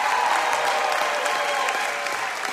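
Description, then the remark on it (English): Steady, dense clapping from a large audience applauding a group of artists at an evening celebration fills the whole clip at a loud, even level, a continuous wash of many hands with no voices rising above it. “First of all, let's give a big round of applause to this extraordinary group of artists.”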